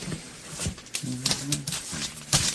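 Close, crinkly paper rustling with sharp, irregular crackles and rapid shuffles, like sheets being flipped and handled, with a faint murmuring voice underneath.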